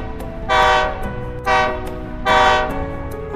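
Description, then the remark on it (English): A train horn sounds three loud, blaring blasts, two longer ones around a shorter middle one, over a steady low rumble of a train rolling along the tracks. “Let's ride the train.”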